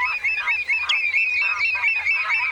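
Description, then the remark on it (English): A dense chorus of wetland birds, including redshanks, coots and lapwings, at a National Nature Reserve wetland before spring, calling continuously, with honking, goose-like cries layered over one another at moderate volume, steady throughout with no talking. “Redshanks, coots, and lapwings are just a few of the fine-feathered friends who sing-wing and strut their stuff at this wetland.”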